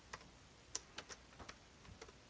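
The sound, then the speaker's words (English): Quiet clacking of keys on a computer keyboard, about ten irregular keystrokes over a couple of seconds with brief pauses between them, and no voices. “So very nice keyboard.”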